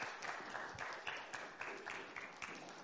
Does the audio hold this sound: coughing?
no